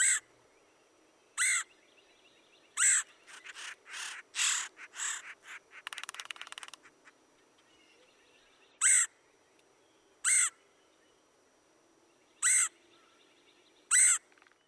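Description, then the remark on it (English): A red-headed woodpecker gives harsh, raspy calls repeated every second or two, with a quicker, busier run of calls and chatter in the middle. Clear, with no one talking. “Here's the raspy call of the red-headed woodpecker.”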